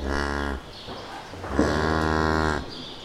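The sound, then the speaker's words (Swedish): Two long, loud moos from dairy cows in a barn on a farm of about 130 to 140 cows, each a deep sustained bellow with rich harmonics, separated by a brief pause. “Från 12 kor då i ditt fall, till hur många idag? 130 eller 130-140. Kor. Ska gå in och kolla på dem?”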